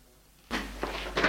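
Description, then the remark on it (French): A father opens a door after a moment of quiet, with a sudden latch-like start followed by about a second of scraping, rattling movement and a couple of brief bumps. “Le père ouvre la porte.”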